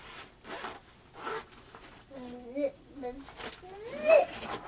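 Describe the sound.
A zipper is pulled shut on a bag in a few quick, raspy strokes, while a young child's voice makes soft whimpering sounds in between.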